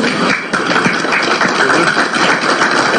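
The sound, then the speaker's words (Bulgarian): Steady, loud applause from an audience: a dense crackle of many clapping hands that holds at an even level for about three seconds, with no voices over it. The applause follows the end of a presentation addressed to the prime minister. “На нас ли ни ръкопляска?”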